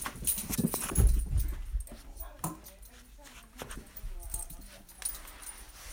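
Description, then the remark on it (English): A dog, Zappa, plays with a thrown squeaker tennis ball slightly bigger than an average tennis ball, giving short squeaks and soft whimpering noises amid shuffling and jangling, with a person's voice faintly in the background. “He still has his ball. He's trying to play.”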